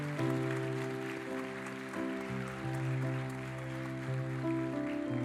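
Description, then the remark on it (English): A church audience claps steadily as a clap offering, a dense patter of many hands, over loud sustained keyboard or organ chords that shift every second or so. Nobody speaks. “Can we all acknowledge those and with the clap offering?”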